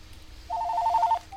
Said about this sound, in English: Oh, we have another phone call. Hold on, folks.